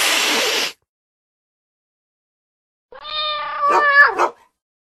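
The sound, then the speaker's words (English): A burst of harsh static-like noise, then silence, followed by an angry cat's loud, drawn-out, wavering yowl lasting over a second. “Now what do you think the cat thought of that?”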